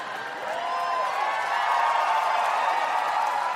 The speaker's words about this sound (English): Cheer all you want.